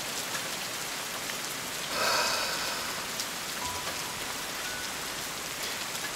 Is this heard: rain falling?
yes